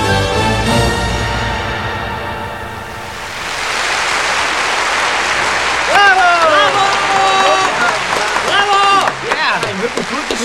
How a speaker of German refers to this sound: Und das Publikum feiert George.